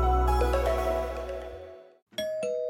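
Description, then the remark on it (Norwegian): A doorbell chimes in a clear two-tone ding-dong, the first tone ringing out and slowly fading before a second, brighter chime strikes. Loud, with no voices. “Ikke løp til døra. Det ringte ikke på.”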